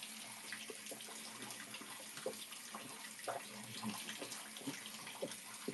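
Shower water runs in a steady hiss, broken by small irregular splashes and patters as it falls, continuing for the whole stretch with no voices.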